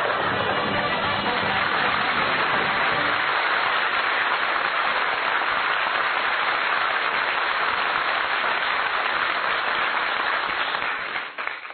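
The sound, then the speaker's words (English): A loud, steady spray of hissing moisture rushes on without pause for about twelve seconds, bright and even throughout, with no voices. The jet of moisture stands for the moisturized Rolly 903 cigarette in an advertisement. “Listen. That jet of fresh pure moisture stands for the new, all-new Rolly 903 cigarette.”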